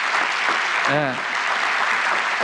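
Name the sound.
audience applause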